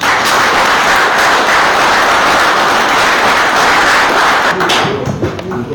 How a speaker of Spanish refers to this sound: O sea que eso lleva un aplauso para él en especial.